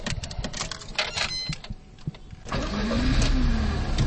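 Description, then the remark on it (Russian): An ordinary training car with a letter "У" on the roof and dual pedals for the instructor starts at a driving competition on a driving course: the engine turns over amid clicks and handling noises, then catches and settles into a steady running hum with a rising tonal whine. “Участники соревнований по очереди демонстрируют свое мастерство на автодроме. Машины обыкновенные, с буковкой «У» на крыше и дублирующим комплектом педалей для инструктора, сидящего справа”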